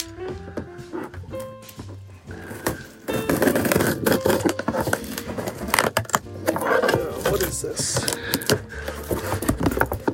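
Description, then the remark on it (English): Keys, used instead of a knife, scrape and tear through an Amazon cardboard box to open it: a few quiet scratches, then from about three seconds a steady run of loud, rough ripping and scraping that keeps going to the end. “I don't have a knife. Just going to use some keys.”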